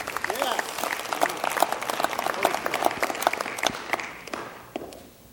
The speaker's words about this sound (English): Yeah, so let's just applaud that.